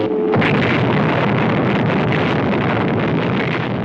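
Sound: explosion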